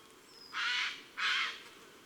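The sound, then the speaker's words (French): A jay gives two harsh, raspy alarm screeches in quick succession, each about half a second long, loud and grating, with a brief pause between them and no voices. “Dès qu'il voit quelqu'un ou quelque chose d'inhabituel, le jet crie.”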